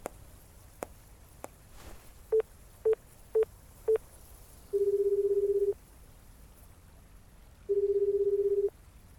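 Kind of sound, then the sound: household object, telephone keypad dialing tones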